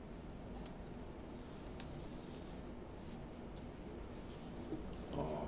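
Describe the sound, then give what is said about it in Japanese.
Soft brush strokes whisper across calligraphy paper (hanshi) in a quiet, continuous rustle with a few faint taps and scratches as someone writes with a brush. No one speaks. “いや、1年に1回こう半紙に何かを書くってことは、うん、なかなかないですから。”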